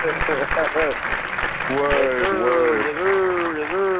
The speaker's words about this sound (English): Hey, I'm clapping and whistling.